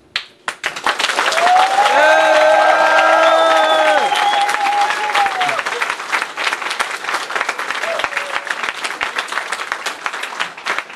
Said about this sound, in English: I shall listen to the sounds of applause.